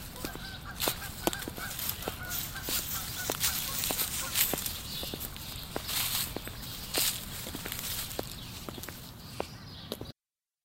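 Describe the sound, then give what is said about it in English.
Footsteps walk at a steady, even pace along a street, each step a crisp tap, with a busy outdoor hum and occasional honking calls in the background. “I like to imagine that at times their footsteps lined up as if they walked together.”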